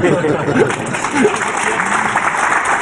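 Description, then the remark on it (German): A German television audience claps steadily in a dense, continuous wash of applause lasting a few seconds, with a faint murmur of voices and a brief chuckle mixed in. “Bemerkenswert, dass alle klatschen”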